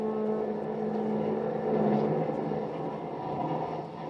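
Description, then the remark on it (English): A sleek, long streamliner train pulls out of New York with a steady, heavy rumble and a low droning hum, holding an even loudness throughout with no voices. “A sleek, long streamliner heads out of New York.”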